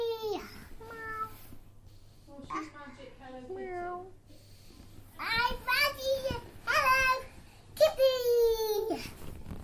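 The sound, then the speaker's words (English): A cat meows several times, each call a drawn-out, falling whine, with short pauses between them and the last few coming louder and more insistent. “Hello, Kitty! How are you?”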